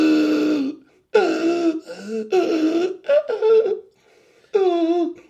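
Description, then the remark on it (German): A voice imitates Darth Vader's respirator after a not entirely successful firmware upgrade: a series of five strained, voiced breathy groans with uneven pitch, broken by short pauses and a longer gap before the last one. “Das klang dann so, wie wenn jemand unterm Fußboden an Asthma leiden würde.”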